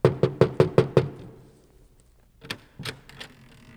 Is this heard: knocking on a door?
yes